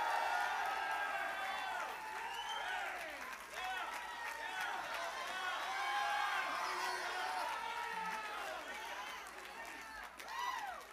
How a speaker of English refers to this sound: Come on, come on now. Some of y'all shouted greater for Duke and UNC last night than you shouting right now. Come on, shout like you've been set free for all eternity.